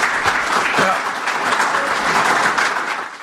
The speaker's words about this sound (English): So a big round of applause for our guests.